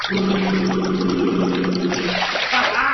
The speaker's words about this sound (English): Blowing bubbles in the bath can be, well.